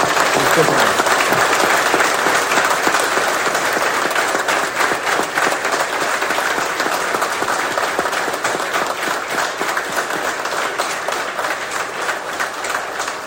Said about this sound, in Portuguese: O meu aplauso.